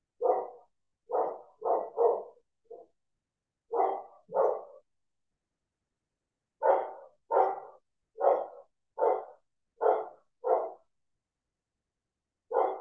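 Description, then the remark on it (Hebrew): Dogs barking in short, irregular bursts: a quick cluster of barks, a pause, then a steadier run of evenly spaced barks, clear with silence between. “אני לא יודעת אם אתם שומעים את הכלבים שמצטרפים אליי לאיחולים, הם לגמרי חלק.”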